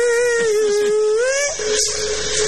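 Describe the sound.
A voice imitates the squealing brakes of a city bus (colectivo), likened to a parrot, with one long, steady, whining tone that bends slightly upward before breaking off, followed by a breathy hiss.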